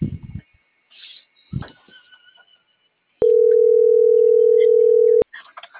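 A loud, steady telephone busy signal tone sounds once for about two seconds, a flat electronic hum, preceded by faint clicks and handling noises and followed by quiet rustling.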